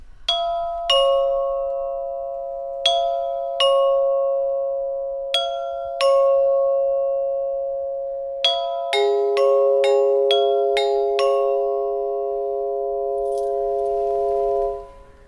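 Small church bells, called gongs in the parish of Šmartno ob Paki and more than 100 years old, ring alone: about a dozen clear, bright strikes with long sustained tones. They start spaced out, then come in a quicker overlapping run before fading.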